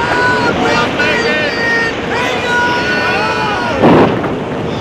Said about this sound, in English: The disciples were helpless against the storm that raged across the Sea of Galilee. The storm lashed at the boat, the waves crashed against the sides, and the foamy waters almost buried the men and boat.